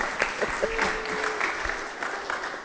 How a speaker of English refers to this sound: And a special round of applause for the Sunday school teachers who have obviously taught these children something. Well done.